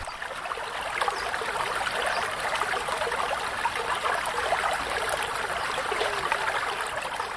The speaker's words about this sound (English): I am at the base of Pagman Mountains, where the Kabul River flows. Just 30 years ago, the river was full of water, irrigating the farms and villages of Kabul province.